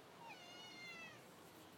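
A female cat gives a single drawn-out meow, rising then sliding down in pitch, over a steady background hiss with no one talking.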